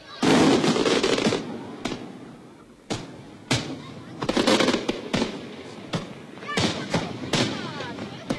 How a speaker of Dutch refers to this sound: Amsterdam kreeg een knetterend luchtvuurwerk te zien in de stijl van Monte Carlo en Nice. Maar er werd toch ook nog even aangeduid waarom het boven het IJ zo knalde.